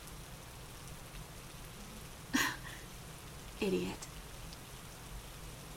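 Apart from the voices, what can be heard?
rain falling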